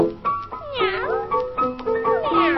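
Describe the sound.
A voice mimics a cat, giving a few drawn-out, whiny meows with sliding pitch in quick succession, fairly loud, over a steady tonal backing.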